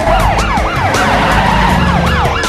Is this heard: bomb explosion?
no